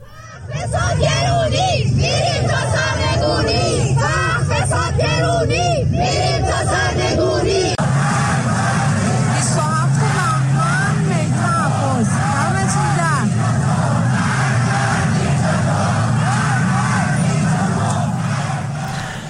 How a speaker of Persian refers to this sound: بنابر این گزارش‌ها شهرهای عراق، گرگان، مشهد، خرم‌آباد، اهواز، کرج، سنندج، اصفهان و تهران صحنه اعتراض‌ها و شعاردهی معترضان علیه سرکوب‌های حکومت و شخص علی خامنه‌ای است.